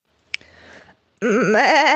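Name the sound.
sheep bleating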